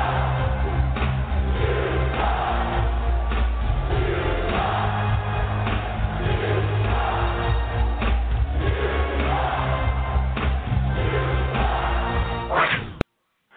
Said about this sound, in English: I hope you could hear the fans cheering, booing, two words, you suck.